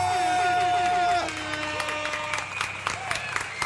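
A burst of crowd applause and cheering played as a sound effect, with a short, bright horn toot sounding at the start, then the clapping and whoops carry on steadily before easing off.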